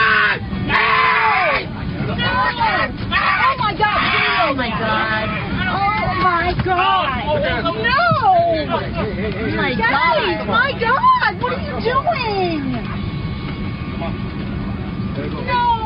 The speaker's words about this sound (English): Justin, describe for us what we're hearing in that video. Well, that is a horrified cabin full of passengers who can't really believe what they're seeing.